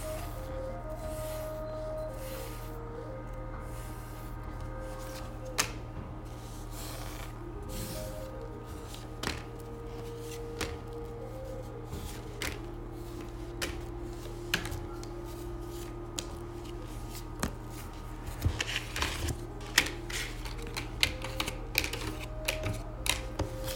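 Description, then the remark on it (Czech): Tarot cards being shuffled in soft, irregular clicks and flicks, growing busier toward the end, over a steady low humming musical drone; no one speaks. “A já už se dívám na vaši fotku, míchám u toho karty a my se spolu podíváme, co nám Tarot poví o vás dvou.”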